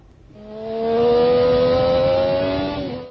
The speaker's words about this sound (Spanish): Me compro una moto que me tiene loco, que cuando la prendo suena to to to to to.